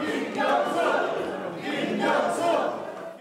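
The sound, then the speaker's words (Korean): A crowd of supporters holding balloons cheers and chants a name in unison at former South Gyeongsang Governor Kim Kyung-soo's official announcement of his presidential run, a loud, dense wall of voices swelling in rhythmic waves throughout, steady with no pause. “풍선을 든 지지자들이 환호하며 이름을 외칩니다.”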